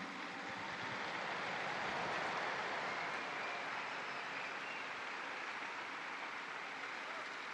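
Sustained audience applause for all the grandparents after a liturgy for the first World Day of Grandparents and the Elderly, a dense steady wash of many hands clapping at an even loudness for several seconds with no voices rising above it.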